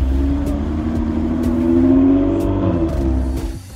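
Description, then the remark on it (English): A NASCAR pace car engine in Las Vegas revs loudly, its droning tone rising in pitch as it accelerates, then easing slightly toward the end; the car is used to help teams establish their pit road speeds. No one speaks. “We make sure that the teams know their pit road speeds, so we help them establish that with this car.”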